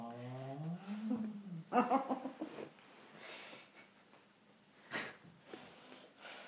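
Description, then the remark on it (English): A short, sharp nasal sniff comes near the end. It follows a stretch of wavering, high-pitched vocal sounds and giggly snorts. “I didn't sniff. You did. You did. You did.”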